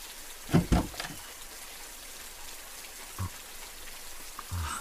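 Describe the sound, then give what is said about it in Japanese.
Steady rain falls as a soft, constant hiss, with a few louder drips and splashes, including a pair of sharp drops near the start. “ごめんな、こんな雨でベタベタのままで。”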